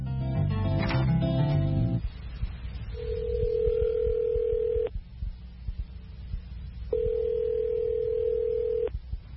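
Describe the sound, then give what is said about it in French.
A quick burst of telephone dialing tones as a man calls a Native American cultural arts council about attending a powwow, followed by a steady dial tone that sounds twice in long, even pulses with a pause between, clear with no voices. “Écoutez Martin au téléphone. Il essaye de savoir s'il peut assister à un powwow.”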